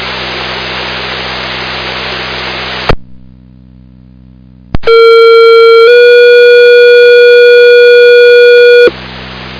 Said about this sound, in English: Thursday night pager test off the Elgin Tower. This is a pager test only.